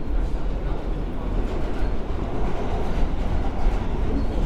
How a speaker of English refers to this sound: So we should explain. We're on the L train.